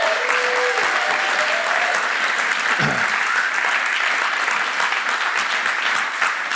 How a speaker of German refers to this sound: Deswegen gibt ihm noch mal einen fetten Applaus.